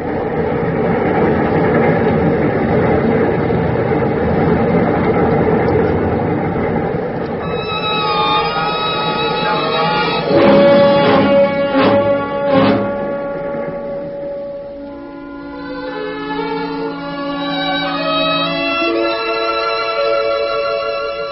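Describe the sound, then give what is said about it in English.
A moving freight train rumbles steadily, then sustained high, whining tones rise over it along with a brief run of rhythmic clatter before the rumble settles again. No voices. “I had watched Hank lean into the sharp, cold wind and disappear into the darkness as his body swayed with the rhythm of the train.”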